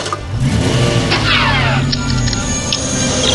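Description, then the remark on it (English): A clown car's engine revs loudly in a driveway, its pitch climbing in a rising surge before settling into a steady roar as it pulls away. “It's actually a clown car that travels through time.”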